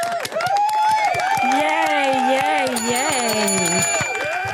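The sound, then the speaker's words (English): A crowd applauds steadily with dense, continuous clapping, while loud cheers and whoops rise and fall over it for the full few seconds. “That was a crowd of people.”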